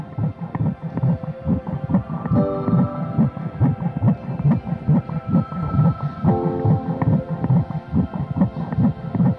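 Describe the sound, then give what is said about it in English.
A fast, steady baby's heartbeat from an ultrasound monitor during a sonogram, rapid whooshing thumps repeating throughout with a muffled, watery quality and faint electronic tones drifting over it. No one speaks. “The moment I saw that heartbeat, changed everything.”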